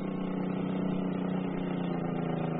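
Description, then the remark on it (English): A boat motor drones steadily at low speed as the boat backs away from a dock and swings its nose out toward the ocean. A dense, even rumble with a humming tone holds at constant loudness throughout, with no voices. “I stood on the dock, watching him back up and swing the nose of his boat out toward the ocean.”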